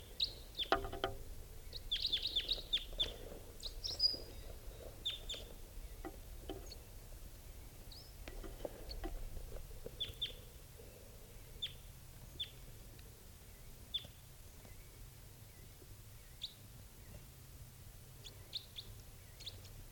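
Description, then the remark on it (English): High-pitched chirps from a wild bird only a few feet away, recorded at 9:02 a.m., repeat in short, irregular bursts over a low, steady rumble, busiest early on and then spaced farther apart. No one speaks. “At the bird, it's only a few feet away here.”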